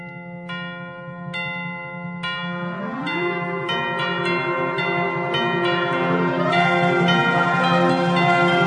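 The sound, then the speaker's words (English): A handbell choir rings out in bright, repeated strikes over sustained, swelling concert band chords, their chiming tones layering and building steadily louder as the piece unfolds. “It also includes an optional part for handbell choir.”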